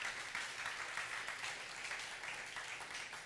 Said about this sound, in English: In behalf of GCF Ortiga Center, we'd like to say happy fifth anniversary to everyone. And I think God deserves a round of applause for that.